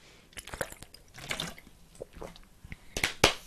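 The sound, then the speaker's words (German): Wet sipping and swallowing sounds of someone drinking water, a few soft clicks and liquid gulps spread over a few seconds, with a louder gulp near the end and no talking. “Erstmal einen Schluck Wasser trinken.”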